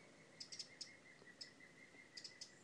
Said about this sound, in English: really rather difficult to work out what this bird is tweeting about.